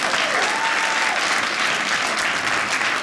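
An audience claps steadily for about three seconds in answer to a call for applause from those who were spanked as children, a dense, even wash of many hands with no pause or break. No one speaks over it.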